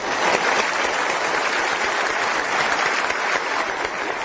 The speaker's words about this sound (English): Wearing a dark suit and a gray tie, Mr. Sleiman took the oath of office to rousing applause.